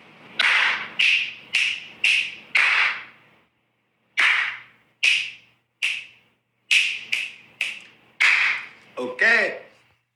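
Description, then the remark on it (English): Loud, sharp finger snaps and hand claps crack out in two quick bursts of about a dozen hits with a short pause between, each ringing briefly. A short voiced sound closes the sequence. “I have a loud snap and a loud clap.”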